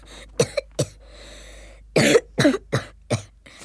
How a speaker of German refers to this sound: Na, mein Kleiner, du hast ja einen fürchterlichen Husten.